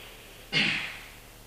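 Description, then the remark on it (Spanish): A single forceful, noisy inhaled breath, an exaggerated airy rush that swells suddenly and then trails off, with no talking, made deliberately louder to demonstrate how people breathe while counting during meditation. “Hago un poquito más de ruido para que entendáis.”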